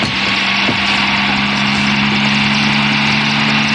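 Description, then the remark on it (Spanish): A helicopter engine drones loudly and steadily, a dense whooshing roar layered over a low, constant hum, with no voices and no change in intensity throughout. “Desde el helicóptero, los criminales tienen bien localizado a Calimán, que corre ágilmente por las rocas.”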